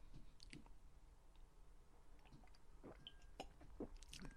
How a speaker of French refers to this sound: Pardon. Un petit gorgée d'eau.